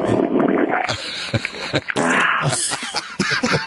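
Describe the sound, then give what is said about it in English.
A comedic fart sound effect from a sound effects box plays, a rough, sputtering low rumble followed by several short, raspy bursts, loud, with no talking over it. “No farts. I think she made a mistake.”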